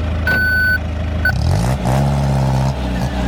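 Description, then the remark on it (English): A truck's reversing alarm sounds one long, steady electronic beep and then starts a second that cuts off, over a loud diesel engine rumble that swells as the vehicle moves. “I kept saying, back the Brinks truck up.”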